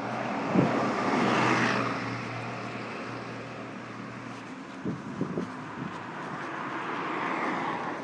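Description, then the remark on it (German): Steady street traffic rumble with a low engine drone as cars and buses drive past someone waiting at a traffic light; one vehicle swells past early on, followed by a few brief clunks and another rising pass. No one speaks. “Aber wenn ich überlege, jetzt könnte ich gehen, habe ich einen Moment zu lange überlegt und es kommt Verkehr. Ja. Und Busse. Autos, die schon gerade mal vorbeigelaufen sind, fahren wieder an mir vorbei.”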